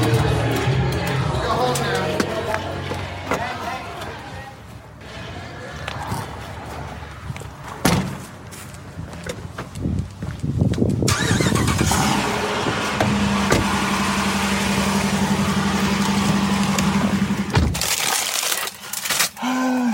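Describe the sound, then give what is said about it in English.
A car door thuds shut amid muffled background noise as someone gets into their car at the end of a wedding night. A few seconds later the car's engine starts up and idles with a steady hum before cutting off abruptly. “So that means that we're just going to jump straight to the end of the night when I get into my car and share my final thoughts of the evening.”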